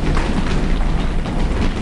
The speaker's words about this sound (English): Number three, stamping. How many of you stamp? Let's hear you stamp with your feet.